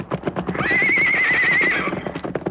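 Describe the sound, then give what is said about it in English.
A powerful white horse with a rider lets out a loud, high whinny lasting over a second, while rapid hoofbeats clop steadily beneath it, prominent. “But he had completed scarcely half the journey when, from behind a cluster of trees, an Indian mounted upon a powerful white horse rode out to block his path.”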